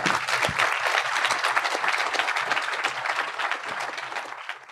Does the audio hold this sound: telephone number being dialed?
no